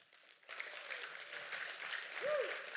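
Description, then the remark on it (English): A church audience breaks into clapping as a clap offering to Jesus Christ after a brief quiet moment, a dense, steady wash of applause that holds to the end, with a short rising-and-falling whoop or cheer near the finish. “Hey, let's give Jesus Christ a clap offering.”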